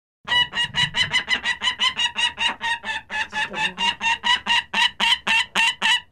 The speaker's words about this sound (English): That was Bonnie, a peregrine falcon that is blind in one eye and would probably not survive long in the wild.